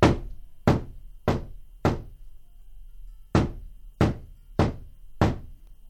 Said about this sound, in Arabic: وجلست في منزلها وجعلت جاريتها على الباب، وإذا بالباب يطرق.